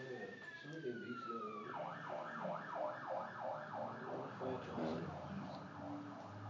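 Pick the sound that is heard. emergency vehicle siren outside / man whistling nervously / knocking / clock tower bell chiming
emergency vehicle siren outside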